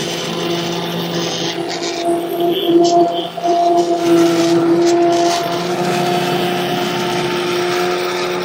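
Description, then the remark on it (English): A steady electric whir of an immersion blender churning through soup, blending everything until smooth, its motor pitch wavering slightly as it moves through the thick liquid, running continuously for several seconds. “so let's go ahead and get back to the soup because we are just going to take an immersion blender and blend everything until it's smooth.”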